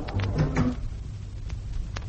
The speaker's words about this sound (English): Oh, just a minute, I'll shut the door.